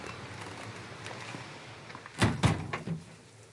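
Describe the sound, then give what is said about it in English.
The main door of the office of the Anglesey Druid Order opens as people enter, with a short burst of clunks and rattles partway through, after a stretch of quiet room tone, with a softer knock trailing just after; moderately loud. “We'll just come through the main door and hopefully we'll find Christopher.”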